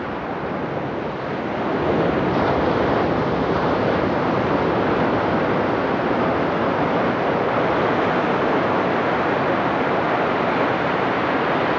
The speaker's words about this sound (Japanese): 二重に護岸工事が施された波消しブロックの向こうに真っ青な海が広がり、波の音が聞こえてきます。